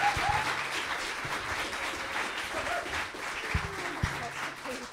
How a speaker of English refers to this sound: So we'll give her a big round of applause.